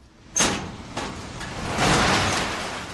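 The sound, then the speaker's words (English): The garage door of a small storage room filled with boxes at Rapid Delivery, a package service in South Dakota, is cranked open: a sudden metallic clatter, then a sustained rolling rattle with repeated bursts that swell and fade over a few seconds, with no one speaking. “just cranked open the garage door of a small storage room filled with boxes.”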